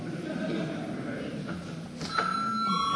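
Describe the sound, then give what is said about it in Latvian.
A voting bell in the chamber of the Saeima, Latvia's parliament, sounds a steady, sustained ringing tone that starts partway through and keeps going, over a low murmur of voices and shuffling. “Lūdzu, zvanu.”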